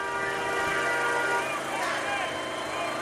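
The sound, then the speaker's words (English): Several car horns blare at once in long, overlapping tones that hold steady for the whole stretch, layered over a dense wash of street noise and murmuring voices. “In this case, you can't tell if it's honking in support or rage.”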